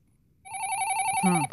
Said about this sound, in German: Telefon? Ist noch gar keine Rätselzeit.